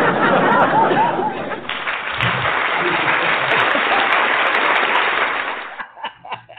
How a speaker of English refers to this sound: You know, I was going to try to get my applause, but I don't have, like, regular applause. I just have laughing applause.